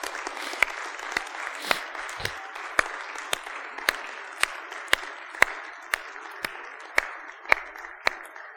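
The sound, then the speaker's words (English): An audience applauds the mothers standing up during a church service, a steady, dense wash of clapping with a few sharper individual claps cutting through at regular intervals and no voices over it. “And everybody else, would you please applaud the moms who are standing?”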